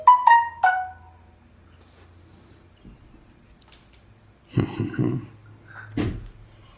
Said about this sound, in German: Ich habe Flugzeugmodus geil drin, das war eine App-Benachrichtigung. Ah. Das tut mir wirklich leid.